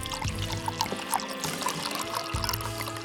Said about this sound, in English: He decanted the cheap wine and winced as he poured some into Christophe's glass.